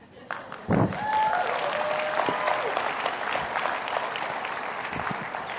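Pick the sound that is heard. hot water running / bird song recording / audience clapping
audience clapping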